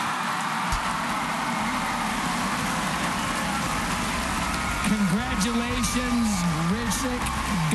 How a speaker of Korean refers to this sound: 사람들의 환호와 박수를 받으면서 이날 뽑힌 철자왕 중 한 사람 챔피언이 됩니다.